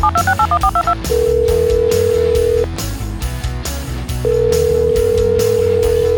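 A telephone call being dialed: a quick run of touch-tone beeps, then long, steady ringing tones separated by a pause, all over a loud, busy musical backing.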